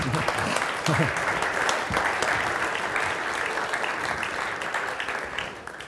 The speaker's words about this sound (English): I wish I could say I wrote this so I could deserve that applause.